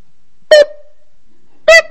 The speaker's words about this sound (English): Light went off, buzzer.